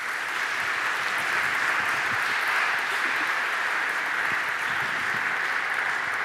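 An audience applauds steadily for about six seconds, a dense, even wash of many hands clapping at a constant loudness with no voices over it.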